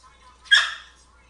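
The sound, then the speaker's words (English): A dog, scared by an approaching tornado, lets out one short, sharp yelp, rising suddenly and fading within a fraction of a second against a quiet background. “The dogs are a little scared on edge of the tornado.”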